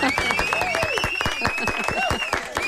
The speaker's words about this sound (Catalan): Un aplaudiment.